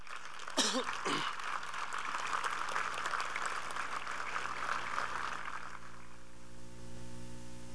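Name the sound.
strong audience applause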